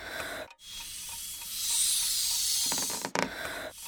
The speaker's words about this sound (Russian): Шарик вот, лежит на столе. Надо его надуть и завязать яркой ленточкой. Сейчас, это я быстро.